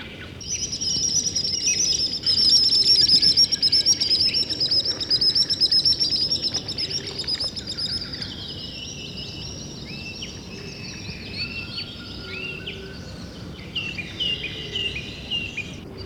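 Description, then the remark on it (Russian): Common sandpipers flying low over the water give shrill, piercing whistles in quick repeated bursts, high-pitched and fairly loud at first, then thinning into scattered calls over a steady low hiss. No one speaks. “Пронзительным свистом над самой водой проносятся кулики-перевозчики.”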